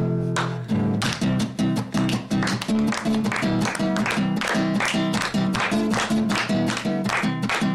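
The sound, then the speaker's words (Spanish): Steady, rhythmic hand clapping keeps a quick, even beat over sustained tonal music, each clap a sharp, bright crack repeating throughout without pause. “Palmas, ¿no? Claro que sí.”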